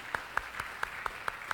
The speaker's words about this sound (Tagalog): Isa kong malakas na palakpak sa ating Panginoon.